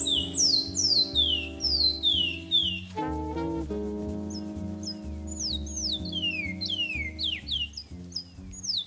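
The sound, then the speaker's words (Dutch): A Surinamese songbird sings repeated quick, descending whistled chirps, loud, over a steady background of low instrumental music, pausing briefly midway before resuming. No one speaks. “Ik denk dat dit een Surinaamse zangvogel is.”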